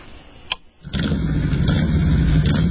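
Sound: motorcycle engine revving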